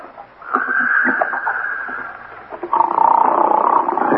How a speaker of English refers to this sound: Some guy snoring up a storm at 9.